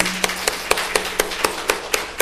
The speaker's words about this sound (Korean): 모든 가족이 지금 웃고 있는 상태지만 정말 그 주 안에서 하나 되는 그거 될 수 있도록 여러분 박수로 크게 격려함을 해주시기 바랍니다.